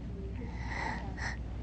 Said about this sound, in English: Oh, that's a big yawn. That's a mighty big yawn.